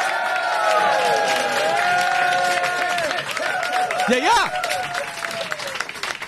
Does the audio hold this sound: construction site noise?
no